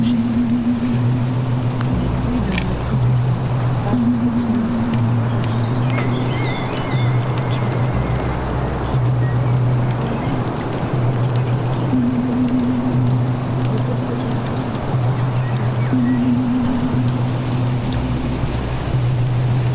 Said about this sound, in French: Ici, dans la forêt ou près de la maison, l'eau, tout le temps, nuit et jour, en toute saison, coule et descend. Seule l'intensité du flot et du son varie, selon le volume d'eau apporté par la pluie ou la neige, ou soustrait par l'évaporation.